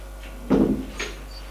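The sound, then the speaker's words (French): A woman opens an office door with a dull thump and a brief rattle of the handle, followed a moment later by a softer click, with a low steady hum. “Elle ouvre la porte et fait passer le jeune homme.”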